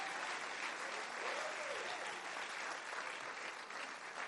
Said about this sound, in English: I wish somebody would clap their hands and give God praise.